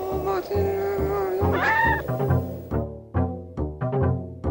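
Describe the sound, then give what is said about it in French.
A cat meows loudly, first in drawn-out, wavering yowls, then in a rapid run of short, clipped mews. “Et qu'est-ce qu'il fait, ce chat?”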